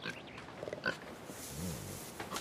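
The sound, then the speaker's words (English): A female pig trots up to a man and sniffs his legs with breathy, rapid snorts, then lets out a low grunt partway through before sniffing again. No one speaks. “The pig trots up to him and sniffs his legs.”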